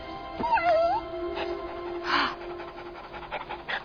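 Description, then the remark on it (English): A dog whimpers with a thin, rising-and-falling whine, followed by short yips and quick panting breaths, moderately loud with no one talking. “A dog wants me to go to St. Petersburg.”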